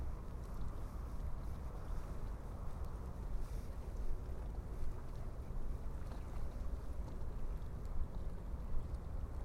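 Gentle water lapping at night in Annecy, soft and continuous, layered over a steady low rumble of city hum, with faint wind brushing the microphone. No voices.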